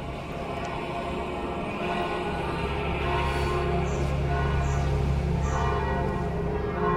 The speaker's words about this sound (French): Alors là, c'est les cloches de Saint-Pierre que vous entendez, et puis de l'église paroissiale, parce que la messe va commencer.